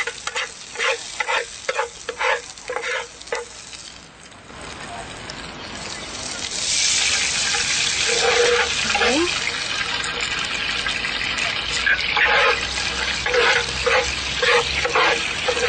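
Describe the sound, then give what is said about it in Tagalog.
Rhythmic scraping of a spoon stirring food in a pan while cooking ginataang kalabasa, then water is poured in before the squash is added, setting off a loud, steady hissing sizzle that continues to the end. “Pwede na natin ngayong ilagay ang tubig.”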